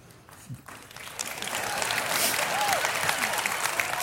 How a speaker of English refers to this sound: The guys are like, why are they clapping?